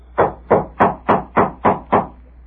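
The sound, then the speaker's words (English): Seven steady, evenly paced knocks on a wooden door, each a firm thud with a short hollow ring, struck alone with no voices. “What's the matter, Peggy? Who's at the door?”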